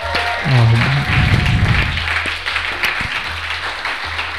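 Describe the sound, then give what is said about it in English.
A crowd applauds the night's winners steadily, a dense wash of clapping that keeps up for several seconds. Early on, a brief rising whoop or cheer cuts through the applause. “But all right, let's get a round of applause for all the winners tonight.”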